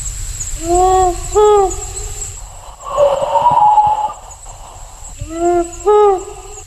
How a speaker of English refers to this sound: It's the dark of night here in the remote Quark Forest outside of Orbost. We're about to play a recording of the powerful owl, a predator of the glider, to see if we can hear a frightened response.